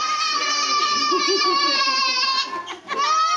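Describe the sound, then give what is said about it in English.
A classroom full of young children creates a loud, steady din of high-pitched voices chattering and calling out over one another, with a brief dip near the end. “We stand in the doorway, and before we can pick her up from the crowd,”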